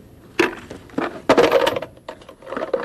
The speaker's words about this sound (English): But it's got a little slit here. Is it a bank? Good guess. Have some pennies. Could I put some pennies in for her? I'm sure she'd be very happy if you did. I've got 2 pennies.